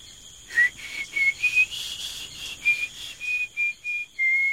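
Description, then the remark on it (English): A run of short, clear whistled notes at a fairly steady pitch, repeated in an uneven rhythm with brief gaps, heard on its own at moderate volume with no talking. “I can also hear some whistling.”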